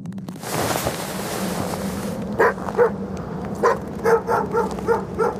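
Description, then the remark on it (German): Several restless sled dogs bark, yip and scrape beside a fully loaded sled in quick, uneven bursts after a couple of seconds of rushing, windy noise, the excited calls overlapping, fairly loud, with no talking; a light west wind blows snowflakes on a clear, cold polar night. “Ein leichter Wind weht von Westen und Schneeflocken tanzen über die unruhig scharrenden Hunde und den vollbeladenen Schlitten.”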